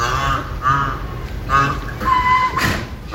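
A rhinoceros snorts and calls in a series of four or five loud, honking bursts with short pauses between them, with no talking.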